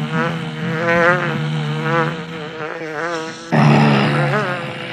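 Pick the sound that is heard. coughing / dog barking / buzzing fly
buzzing fly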